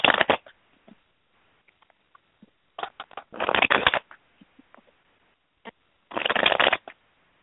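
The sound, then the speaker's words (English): Cards being shuffled in three dense, crackling bursts, each a second or so long, with scattered soft clicks and taps between them, fairly loud with no voices. “I'm still shuffling, though, and I'm definitely here.”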